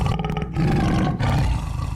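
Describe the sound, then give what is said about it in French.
A deep, rumbling tiger roar fills the whole two seconds, loud, with a brief dip in the middle before the growl surges again. No voices. “Si j'étais un animal, je serais un tigre.”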